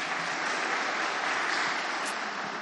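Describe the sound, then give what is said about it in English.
An audience claps their hands to answer that they like donuts, a dense wash of many overlapping hand claps at an even, moderately loud level throughout, with no voices heard. “If you like donuts, please clap your hands.”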